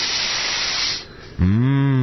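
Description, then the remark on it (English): A long, loud, hissing deep breath inhaled through the nose lasts about a second, followed by a short pause and a voiced, satisfied-sounding sigh whose pitch dips and then rises, in a car insurance radio commercial. “Go ahead, take a deep breath.”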